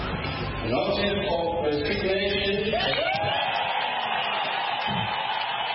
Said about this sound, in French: Cris de joie et applaudissements au Parlement zimbabwéen, les députés n'ont certainement pas caché leurs sentiments à l'annonce surprise de la démission de Robert Mugabe ce mardi, annonce faite par le président de l'Assemblée Jacob Mudenda.